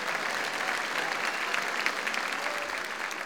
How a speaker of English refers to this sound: Everyone, give them a round of applause now. Come on.